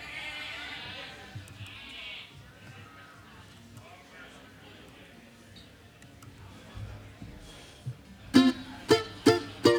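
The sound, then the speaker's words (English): Voices imitate goat bleats: four loud, quavering bleats in quick succession near the end, following a stretch of muffled crowd noise and chatter. “We start making chicken and goat noises and stuff again.”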